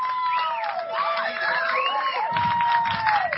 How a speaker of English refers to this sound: The crowd coming alive. He will stand. And an RBI double by Tanner Tweet has brought this crowd alive.